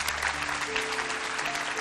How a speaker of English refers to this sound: Can you give the Lord another big hand clap?